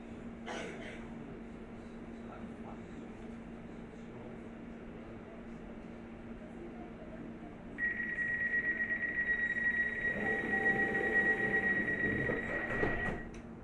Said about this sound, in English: This is the train to Abbey Wood via Canary Wharf. Next station, Canary Wharf.